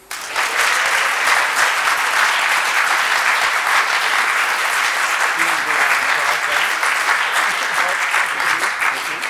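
A crowd claps steadily for several seconds, a dense, even wash of applause that holds at a consistent loudness throughout with no voices standing out.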